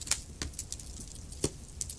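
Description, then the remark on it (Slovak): A wood fire crackles softly, with scattered sharp pops and snaps at irregular intervals over a low, steady rumble. No one speaks. “Alebo na môj hlas a zvuk praskajúceho dreva.”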